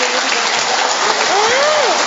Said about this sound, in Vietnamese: tràng pháo tay thật to nữa thưa các bạn, thưa anh chị em.